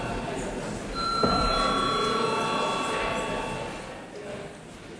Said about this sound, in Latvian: Lūdzu zvanu, lūdzu deputātu klātbūtnes reģistrāciju.